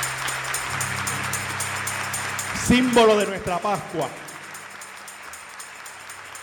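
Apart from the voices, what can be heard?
audience applause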